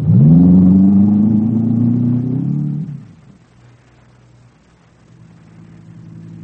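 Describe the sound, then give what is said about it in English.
A car engine roars loudly with a rising rev for about three seconds, then drops to a low, steady idle-like rumble as the vehicle pulls away. “I run back into my room, down the fire escape into my car.”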